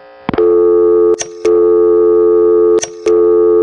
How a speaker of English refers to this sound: The dial tone would keep right on going as if you hadn't dialed anything.